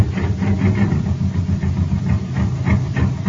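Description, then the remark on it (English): A jet cycle engine from the Space Patrol show, running on ordinary fuel, putt-putts steadily on its own, a low chugging drone with regular pulsing bursts about three or four times a second and no voices. “Listen to this jet cycle.”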